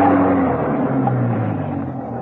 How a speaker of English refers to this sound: He was nearly at the French windows that led into Whitehead's study when he stopped, froze in his tracks. A car was coming up the driveway. Had Venus Brown returned?